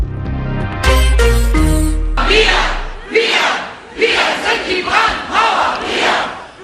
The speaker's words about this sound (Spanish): Todos contra el fascismo, gritaron miles de personas este fin de semana en Alemania cuando salieron a las calles para manifestar contra la alianza del partido Unión Cristiano Demócrata, el CDU, y la extrema derecha de Alternativa para Alemania,